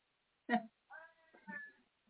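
An old cat meows a few times in quick succession, short harmonic cries with a rising, drawn-out middle call, moderately loud with no talking over them.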